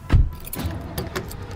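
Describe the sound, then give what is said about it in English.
Keys jangle in short metallic bursts, opening with a dull thump like a car door or someone settling into a seat, then a few more light rattles, as a family gets into a car. “All right, everybody in the car, let's go.”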